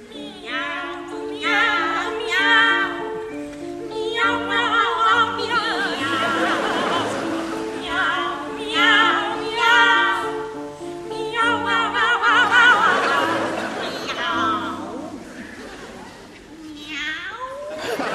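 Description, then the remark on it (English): Two operatic sopranos trade sung, cat-like "meow" phrases over a steady piano accompaniment, their voices sliding, overlapping and imitating cats, loud throughout. “Rossini, for example, famously wrote a cat duet where he asked sopranos to stand on stage and sing the word meow repeatedly”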